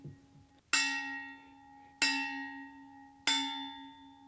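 A pen taps a glass bottle three times at a slow, even pace, each strike giving a bright ringing tone with a steady pitch that lingers and fades before the next hit.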